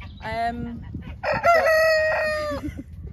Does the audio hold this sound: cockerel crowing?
yes